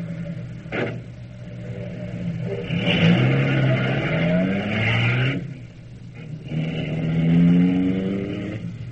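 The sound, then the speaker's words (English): A car pulls away, its engine revving up in rising sweeps, dropping briefly as it shifts gear, then climbing again. A short thump comes at the start, with no voices. “Here's the car. Get in.”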